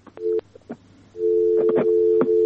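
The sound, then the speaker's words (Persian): A telephone busy tone after a caller's call was cut off: a brief low electronic beep, then a steady, loud continuous tone with scattered clicks and line crackle, no voices. “تلفن تماس از یک قطع شد.”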